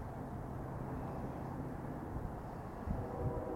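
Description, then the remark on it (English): A steady low rumble of interstate highway traffic and passing trains fills the air, continuous and fairly quiet, with no voices and only slight swells in the drone. “But unfortunately, I largely hear the interstate and trains.”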